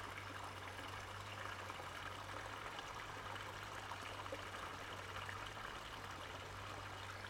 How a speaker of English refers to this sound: Yes, it's running water, isn't it? How pleasing, how deeply satisfying, how good is that? And I suppose that connects up with all those ponds, all the water on Hampstead Heath.